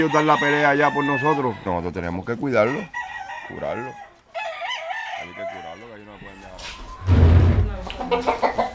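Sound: rooster crowing and clucking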